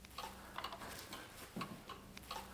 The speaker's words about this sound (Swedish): hänger en liten väggklocka i mörkt trä. Den går fortfarande, men jag ställer aldrig in tiden.